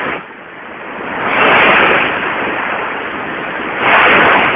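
Sea waves crash against a rocky shore in darkness in a steady, ceaseless roar, with two louder surges swelling and breaking. No one speaks.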